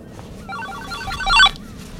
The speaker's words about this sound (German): Was ist denn jetzt? Mein Handy.